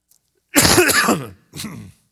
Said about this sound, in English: Seems like when I get in the pulpit, I start coughing. I wasn't having any problems this morning. Excuse me.